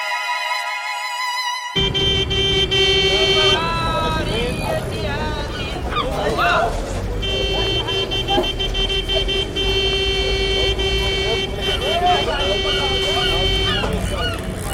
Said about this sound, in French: Alger, mardi 24 décembre 1991. Les boutiques ouvertes, les trottoirs bondés, les coups de klaxon donnent aux rues des centres-villes des airs d'insouciance.